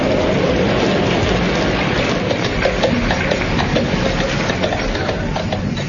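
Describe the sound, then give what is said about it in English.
A heavy mountain storm in the Dolomites with driving rain, a dense, steady roar and low rumble that holds constant throughout, with scattered spatters and gusts rising briefly above the wash. No voices. “It was the worst storm they'd ever known in the Dolomites.”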